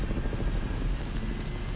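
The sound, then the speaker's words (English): A helicopter takes off in the background, droning steadily, its low, rumbling rotor wash at a constant level with no voices. “I love that ghostly helicopter taken off in the background.”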